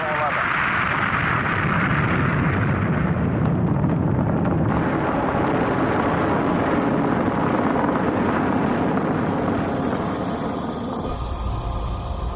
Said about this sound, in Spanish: A las 9:32 de la mañana del 16 de julio se produjo el despegue. 3, 2, 1, 0. Motores encendidos. Despegamos. El Apolo 11 está despegando.